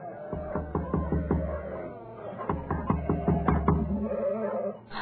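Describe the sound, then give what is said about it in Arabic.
In a children's story, a voice mimics someone knocking on the door of the sick hen's house with quick, repeated rhythmic syllables, coming in two bursts of about five or six beats each, fairly loud. “وعندما كانوا في بيت الدجاجة سمع الجميع أن هناك أحدا يطرق الباب.”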